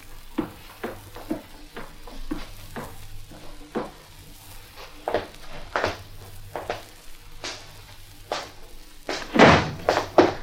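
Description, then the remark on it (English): A front door swings closed with a solid thud near the end, preceded by a string of soft, irregular knocks and shuffling thumps, with no voices. “Did you close the front door?”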